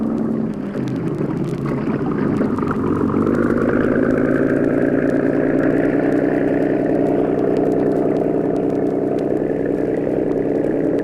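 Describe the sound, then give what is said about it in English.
A cabin cruiser's engine rumbles steadily as the boat is backed out of a boathouse into clear water on a river, then revs up after a few seconds, its droning pitch rising and holding in a loud, continuous hum with no voices. “boarded the cabin cruiser. And within a few minutes, the boat was backed out into clear water.”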